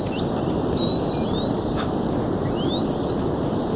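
Dolphins communicating with each other whistle in high, thin tones that glide up and down and overlap, sometimes rising in long sweeps, above a constant rushing underwater hiss, with a brief click-like burst midway. No one speaks.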